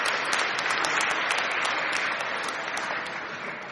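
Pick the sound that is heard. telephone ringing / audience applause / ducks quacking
audience applause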